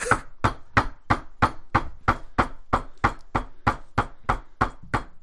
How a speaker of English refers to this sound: And from the door, as soon as you began knocking, you hear...